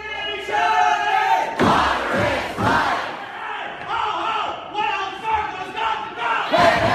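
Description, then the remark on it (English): A crowd of protesters cheers and applauds the Seattle City Council's unanimous vote to divest from Wells Fargo Bank, with sustained shouts and whoops rising in bursts over a steady wash of clapping, the noise staying dense and energetic throughout. “The sound of protesters applauding the Seattle City Council, which decided in a unanimous vote to divest its investment activities with the Wells Fargo Bank”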